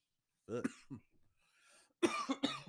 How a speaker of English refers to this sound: I know you're burping. I'm coughing.